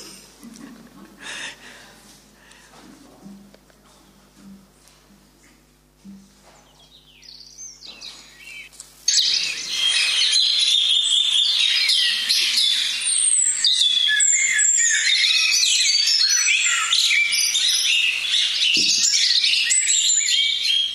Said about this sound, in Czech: Ptáčci, ty krásně zpívají.